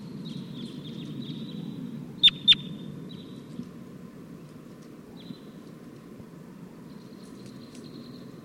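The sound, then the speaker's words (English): A wild flock of eight birds calls loudly, thin, high-pitched calls, some in quick repeated bursts, over a steady low rumble. Two sharp clicks sound early on, and a few softer calls return near the end. “Pointed at 256, the wild flock is calling loud now.”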